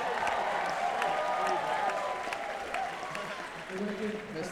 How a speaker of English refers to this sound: So this is great to see you here, so give you a round of applause. Give yourselves a round of applause for coming out.